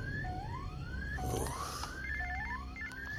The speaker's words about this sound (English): Did you not hear the alarm going off?